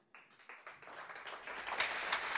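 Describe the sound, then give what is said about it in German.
An audience breaks into applause for what Dario Minden said in his speech. The clapping starts thinly and swells into a dense, steady wash of many hands, with a few sharper claps standing out near the end. “Ja, da gab's in Frankfurt Applaus, und es gibt hier Applaus für das, was Dario Minden da gesagt hat.”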